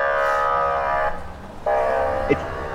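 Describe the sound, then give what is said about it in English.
A loud ambulance siren blares outside in two long, steady blasts separated by a short break, its tone harsh and honking rather than smoothly wailing. “It's like the ambulance is on its way somewhere in a hurry and also has indigestion.”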